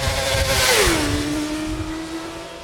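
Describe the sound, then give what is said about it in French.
A loud motorcycle engine roars, its pitch sliding down and then holding at a steady drone, as if passing by or easing off the throttle. No voices. “Bah, je sais pas, moto.”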